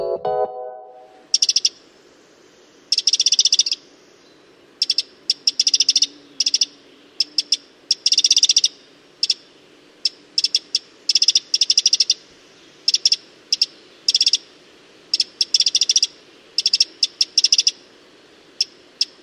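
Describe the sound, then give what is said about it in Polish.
Bright, high bird calls ring out in quick, irregular bursts of chirps and trills, fairly loud, repeating steadily over a quiet woodland background with no one speaking. “Z ptasiego na polski tłumaczy ornitolog Paweł Pstrokoński.”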